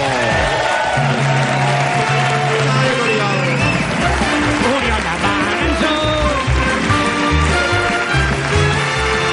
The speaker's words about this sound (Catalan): Fort aplaudiment per l'Oriol de Balanzó!